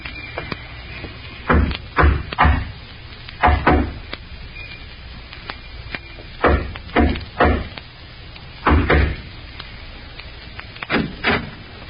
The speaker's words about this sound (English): Remember the code knock? Yeah. 3 long and 2 short.